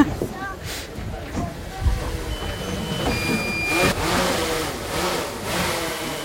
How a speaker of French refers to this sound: Mais là, il vous faut contrôler le drone, c'est ça ? Et là, il me faut contrôler le drone.